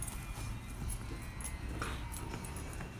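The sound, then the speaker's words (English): A dog named Zap plays with a ball that one of the kids is throwing to him in a yard: scattered soft thumps and quick pattering steps, with a few faint whimpers, over a steady low rumble. Nobody speaks. “One of the kids is throwing the ball to him.”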